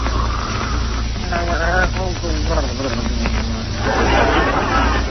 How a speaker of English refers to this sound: Oh, listen to those beautiful pear-shaped snores. It sounds like a frog with a man in his throat.